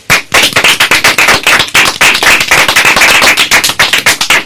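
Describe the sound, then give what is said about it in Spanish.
A group bursts into loud, sustained applause for themselves, many hands clapping in a dense, crackling patter that holds steady for several seconds with no voices over it. “¿Qué os parece si nos damos a nosotros mismos un súper aplauso por haberlo hecho también?”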